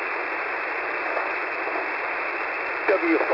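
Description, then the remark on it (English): Steady, band-limited radio static hisses throughout on an amateur radio net, the Sunday Morning Texas Trader net, and near the end a very faint, garbled voice briefly surfaces through the noise, like a very weak station barely coming in. “Alright, I heard somebody in there, but I need a relay. That's very, very weak station.”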